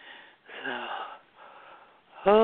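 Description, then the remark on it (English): A drawn-out yawn with a slightly voiced, breathy groan, followed by a softer breathy exhale; a voice starts speaking right at the end. “I'm yawning.”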